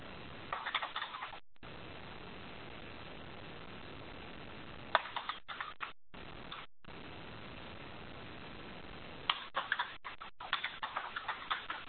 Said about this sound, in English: Open mic to a keyboard, just letting you know someone's got an open mic on a keyboard.